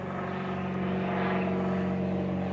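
A small propeller plane drones steadily overhead at a small grassroots airfield with a grass runway, its engine a continuous buzzing hum with strong low harmonics, swelling slightly louder mid-way as it passes. No one speaks.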